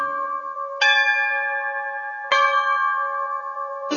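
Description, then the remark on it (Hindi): A temple bell on earth rings out clearly three times at uneven intervals as worship of Vishnu is about to begin, each strike bright and metallic with a long sustained, shimmering ring that overlaps the next. No voices are heard. “अरे प्रभु, ये घंटी की आवाज कहां से आ रही है?”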